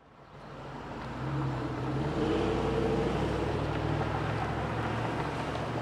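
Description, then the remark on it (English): Steady street traffic at the intersection of Kalamazoo Street and Burton on the southeast side of Grand Rapids on a windy day: a low engine rumble swells in the first seconds and holds, with wind buffeting the microphone and no voices. “This is the intersection of Kalamazoo Street and Burton in Grand Rapids. It's a windy day in this predominantly black neighborhood on the southeast side of the city.”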